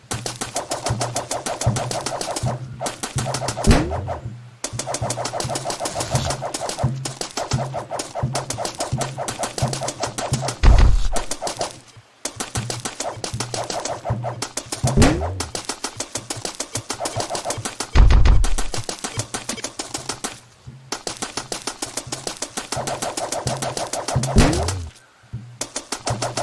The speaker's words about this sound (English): You have popped 4 balloons so far.